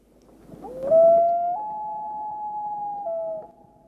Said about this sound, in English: this is the most identifiable sound of the loon, the thing that we hear across the water at night when we're up north. This is the wail of a loon.